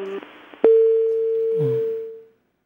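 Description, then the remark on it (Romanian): A crackle of line noise and a sharp click give way to a loud, steady phone-line busy tone after a caller's phone call drops. The tone holds unbroken for about a second and a half. Faint murmuring sits underneath before it cuts off. “Am încercat și am preluat telefonul foarte repede de la momentul în care a sunat. Nu știm ce s-a întâmplat, sperăm să revină.”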